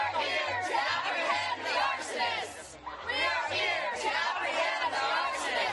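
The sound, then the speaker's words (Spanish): A crowd of climate change protesters shouts and chants together on the steps of the US Senate in Washington, in a dense, continuous roar of overlapping voices, with rising and falling waves of yelling and no individual words standing out. “Protestar a gritos contra el cambio climático en las escaleras del Senado estadounidense.”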